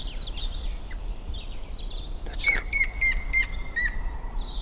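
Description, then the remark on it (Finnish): A grey-headed woodpecker calls a short run of clear, evenly spaced whistled notes while other small birds chirp and a low outdoor rumble continues underneath. “Siinä siis harmaa päätikka.”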